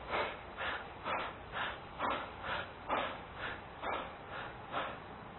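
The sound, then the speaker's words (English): Rapid, shallow breathing from the upper chest, done deliberately as a breathing exercise, about two quick airy breaths per second in a steady, even rhythm, moderately loud with no talking. “Breathe only in your upper chest and breathe 30 shallow and rapidly.”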